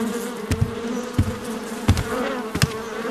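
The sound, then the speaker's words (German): A steady, droning buzz of many houseflies fills the space, with several sharp knocks or taps breaking through at intervals over the continuous hum. “So viele Fliegen hatten wir noch nie um diese Zeit.”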